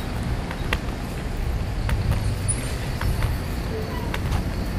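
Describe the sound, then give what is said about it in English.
Steady lunchtime traffic on Oakton street rumbles throughout, a broad continuous wash of passing vehicles with a deep low-end hum, punctuated by a few brief sharp clicks or taps. “Yeah, you can kind of hear traffic's picking up, you know?”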